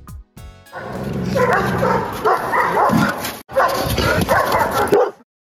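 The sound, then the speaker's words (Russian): Guide dogs at the Russian School for Training Guide Dogs of the All-Russian Society of the Blind bark, yip and whimper in a loud, nearly continuous chorus, with one brief pause midway before the excited barking resumes and then cuts off. “Вашему вниманию предлагается аудиоверсия презентации о деятельности Российской школы подготовки собак-проводников Всероссийского общества слепых.”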